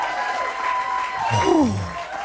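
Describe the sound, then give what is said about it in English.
An audience applauds steadily to welcome a performer to the stage, a dense wash of clapping at an even level throughout, with a brief whoop or cheer rising and falling partway through. “Can you give her a massive round of applause?”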